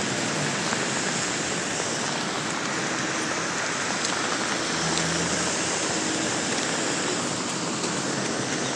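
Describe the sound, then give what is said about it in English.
Steady moderate rain patters against a fabric hood and jacket outdoors amid ice and snow, a dense, even hiss of drops with soft irregular taps, continuous throughout with no voices. “The rain is moderate, it's not heavy at the moment, but you should be able to hear it hitting my hood and my jacket.”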